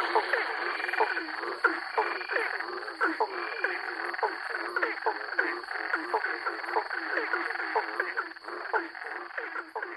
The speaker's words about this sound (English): There are 11 species in this recording, and the bigger frogs have the deeper sound, and the smaller frogs have the higher pitched sound